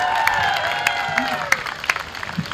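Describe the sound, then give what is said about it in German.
A large outdoor crowd of about 250 people at a Trans Day of Visibility rally at the Steintor in Halle, Germany, on a fairly hot day, murmurs in a steady wash of noise, with scattered claps, a few sharp bursts, and overlapping voices and whistle-like tones rising and falling above it. “Hier ist gerade eine Kundgebung am Steintor. Es sind ungefähr 250 Leute da.”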